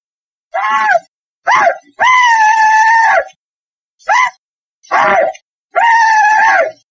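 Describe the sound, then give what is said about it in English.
An original recording of the Civil War rebel yell: six loud, high-pitched whooping cries in quick succession, some short yips and some drawn-out wails that rise and fall, with silence between cries and no talking. “I was riding in a bus on a battlefield tour with someone who told me about one of the original recordings of the rebel yell.”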